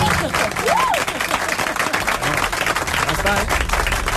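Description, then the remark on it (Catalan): An audience applauds steadily, a dense, even wash of clapping that holds at a strong level throughout, with a few voices and cheers rising over it. “Un aplaudiment. Bravo.”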